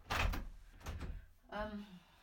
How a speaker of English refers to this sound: I'm just putting you down there while I lock the door again.